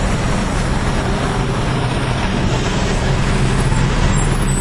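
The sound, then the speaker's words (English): A bus rumbles, its engine noise loud and steady with a broad hiss of air brakes as it pulls up. No voices are heard. “Nope, I'm not getting on the bus, thanks.”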